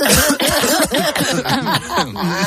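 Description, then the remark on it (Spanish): A group of people on a COPE radio show deliberately cough all at once on a count of three, a loud, dense jumble of overlapping hacking coughs and throat-clearing sounds that keeps going for a couple of seconds, chaotic. “Vamos a toser todos los que podamos a la vez.”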